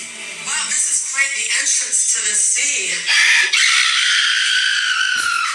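A woman screams in fright when someone scares her, starting with choppy, wavering vocal bursts that rise into a long, loud, piercing shriek held for a couple of seconds before cutting off.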